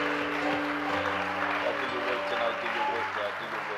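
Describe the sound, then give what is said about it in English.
A church audience claps steadily and loudly as a hand clap of praise during a worship service, a dense, continuous wash of applause, with sustained musical tones and some indistinct voices beneath it. “Somebody give him a hand clap of praise.”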